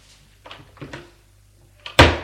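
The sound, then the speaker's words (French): A door slams shut with a loud, sharp bang near the end, preceded by a few softer creaks and knocks of it being moved. No voices. “Une porte qui a claqué.”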